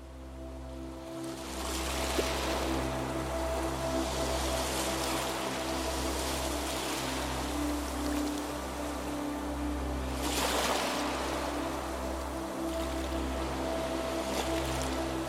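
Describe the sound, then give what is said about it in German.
Waves of an endless sea at the edge of a forest, under the moon at night, wash in a continuous rushing hiss, swelling into louder surges around two and ten seconds, over a steady low droning hum. No one speaks. “Dort, am Ende des Waldes, breitet sich ein endloses Meer vor dir aus.”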